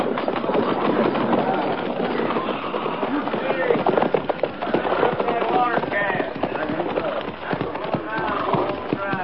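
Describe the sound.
A steady, loud rumble of a train engine rolling along the tracks, with rhythmic clattering, scattered sharp cracks, and indistinct voices mixed into the noise throughout.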